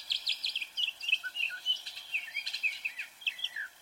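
A northern mockingbird sings a rapid, varied string of bright chirps, whistles and trills, phrases changing every fraction of a second, clear with no voices.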